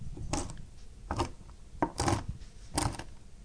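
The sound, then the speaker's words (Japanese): A knife chops through nuts on a cutting board, pressing down to cut them finely for okaka nut rice balls, giving four or five sharp, crunchy knocks spaced about a second apart, each with a brief crackle of breaking pieces. No one speaks. “そして、ナッツを砕きます。まな板の上に置きまして、包丁で押して切るようにして、細かく切ってください。”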